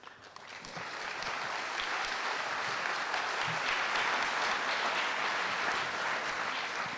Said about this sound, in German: Ich habe noch gar nichts gemacht, da klatschen die schon.